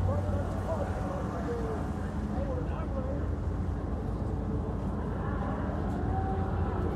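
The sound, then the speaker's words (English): Drag-racing motorbike engines roar as the bikes launch off the line in a dense, continuous rumble that stays loud and steady throughout, with indistinct voices murmuring underneath the noise. “They really are noisy when they come out of the line.”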